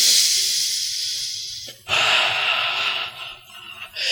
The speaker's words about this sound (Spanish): Vamos, tómame una respiración profunda en este momento. Otra respiración profunda.